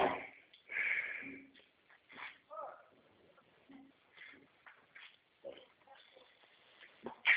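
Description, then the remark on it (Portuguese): Pig oinks and snorting grunts come in short, irregular bursts over several seconds, moderately loud, with a higher squeal midway and some voices talking in between. “Telefone, seu porco.”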